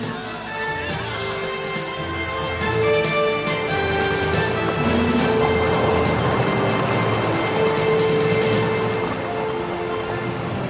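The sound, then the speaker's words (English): Rushing waves of the sea parting roar steadily throughout, swelling louder after the first few seconds into a broad, continuous wash of churning water, with sustained musical tones held underneath. No one speaks. “The sea is parted. There's a clear, dry path for us to walk.”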